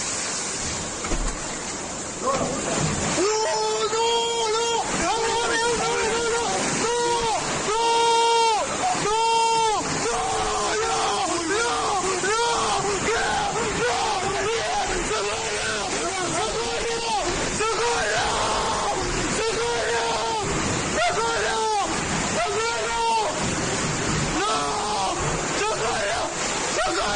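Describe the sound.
A steady, loud roar of rushing floodwater pours through a wall that gives way under the water's force, while voices, including a man's, shout and yell in repeated agitated bursts over the torrent.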